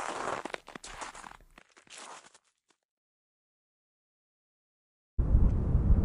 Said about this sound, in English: They heard distant crashes through the thick, brittle undergrowth, noisy footsteps crumping in the snow.